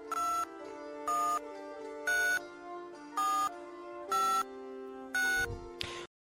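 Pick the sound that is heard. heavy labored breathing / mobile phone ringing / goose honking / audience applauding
mobile phone ringing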